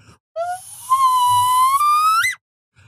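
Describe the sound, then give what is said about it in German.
A starship warp drive effect of the USS Enterprise going at Warp 3, made by a whistling voice: a bright tone slides up, holds steady with a faint low rumble beneath, then sweeps sharply higher and cuts off. “Ja, das war Warp 3. Warte, jetzt kommt Warp 4.”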